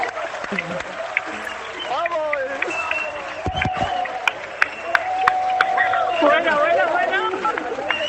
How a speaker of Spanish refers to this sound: Bueno, los abrazos, los aplausos que escucháis son los aplausos del alcalde de Barbastro.